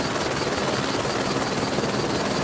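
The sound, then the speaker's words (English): A helicopter's rotor and engine roar steadily and loudly, as if passing overhead, a dense continuous wash of noise with no voices. “GI, your helicopters fall from the sky like broken birds.”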